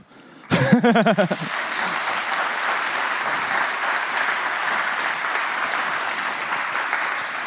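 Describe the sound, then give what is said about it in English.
An audience breaks into steady, sustained applause for a speaker finishing a talk on RTSP brute-forcing tools, opening with a brief voiced whoop or cheer and holding at an even level to the end. “So big applause again,”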